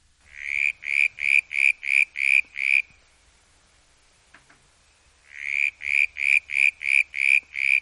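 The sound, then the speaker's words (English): Tree frogs calling in fast, evenly spaced pulsing bursts, a loud rhythmic series that pauses for a few seconds of near-silence before starting again, with no voices. “the tree frogs.”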